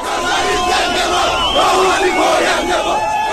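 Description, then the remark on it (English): A large crowd at Tehran's international airport cheers and shouts continuously, greeting Iran's foreign minister Javad Zarif on his return from talks in Switzerland: a dense roar of many voices with rising calls layered over it, loud and sustained throughout without a break. “When Iran's foreign minister Javad Zarif came home back to Tehran after those epic talks in Switzerland, he was greeted at Tehran's international airport by some cheering crowds here.”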